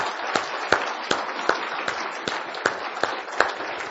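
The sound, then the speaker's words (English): An audience gives another round of applause to the choir, a dense wash of many hands clapping with a few louder claps falling into a regular, almost unified beat about every third of a second. “And I want to give another round of applause to our choir.”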